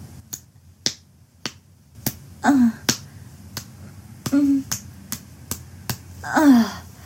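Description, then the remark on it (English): About a dozen sharp slaps of a hand on skin land in a steady rhythm roughly every half second, with breathy moans and gasps rising between them. “Maybe I'll just slap my clit.”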